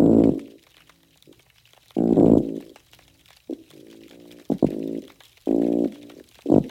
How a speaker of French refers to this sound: Des grognements de gros poissons nommés le mulloway, captés par la chercheuse Sarah Marley.